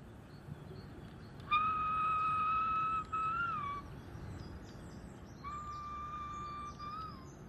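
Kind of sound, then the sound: bird, birds singing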